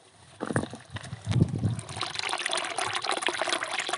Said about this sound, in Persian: یه لحظه سکوت کنید. یه صدایی میاد الان. صدای آبه. ها؟ صدای آبه. بذار من برم نزدیک صداشو بشنوم.